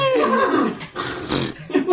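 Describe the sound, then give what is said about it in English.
A person imitates a horse whinny, a loud, wavering, nasal vocal neigh that trembles in pitch, followed by a few breathy, raspy bursts. “That was a witch, not a horse. It's a horse.”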